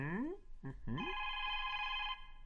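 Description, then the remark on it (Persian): A telephone rings with an electronic ringtone: three quick rising chirps, then a steady, bright, sustained tone held for about a second before it cuts off. “دنگ تلفن، اجازه بده جواب بدم.”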